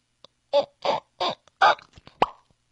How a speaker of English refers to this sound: any bottle of champagne that's been opened, usually the holidays or whatever, I open it.